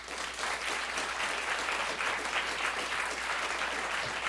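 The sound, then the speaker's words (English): A crowd claps steadily for a few seconds, a dense, even wash of many hands applauding at constant loudness with no voices heard over it. The audience at a WNYC event with Michael Moore applauds to show it would go for single payer. “Among the others, how about everybody applaud if you would go for single payer today?”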